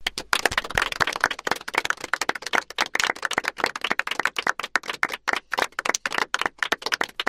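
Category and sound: crowd, loud clapping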